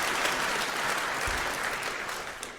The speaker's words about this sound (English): First, let's give a round of applause for the heralds and the angels for putting up with all this and generally keeping things moving smoothly.